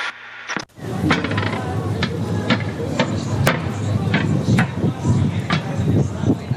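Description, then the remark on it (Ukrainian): Carved metal storm drain grates on Nezalezhnosti Street in central Ivano-Frankivsk, Ukraine, clank underfoot, about a dozen sharp metallic knocks in a loose, uneven rhythm over a steady bed of murmuring voices and street noise. “Це вулиця Незалежності, там є лівньові такі решітки і дуже полюбляють бавитися діти, бо вони такі різблені, красиві і коли ти йдеш”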